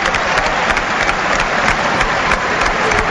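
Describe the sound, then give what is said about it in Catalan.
Steady applause from a large stadium crowd at an Espanyol football match, a dense continuous patter of many hands clapping at a fairly loud, even level throughout, with no voices standing out. “Ells van aplaudint.”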